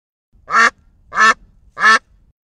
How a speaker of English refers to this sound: What's that? It's a duck.